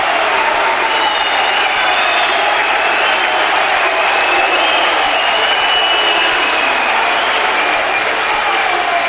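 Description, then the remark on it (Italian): The crowd at the Palamangano arena applauds encouragingly for Coach Bonicioli's team, a dense, unbroken wash of clapping with a murmur of voices underneath, holding at an even, loud level throughout. “Applauso incoraggiante del Palamangano per gli uomini di Coach Bonicioli, che comunque è giusto far sentire il proprio calore, il proprio apporto.”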